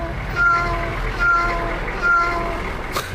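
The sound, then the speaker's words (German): Three evenly spaced cat meows repeat like a reversing warning beep over the low rumble of an idling garbage truck or street-cleaning vehicle, each short and tonal, with a brief click near the end. “Die haben meinen höchsten Respekt, aber kann man das Geräusch nicht einfach mal schöner machen? Einfach eine Katze oder so?”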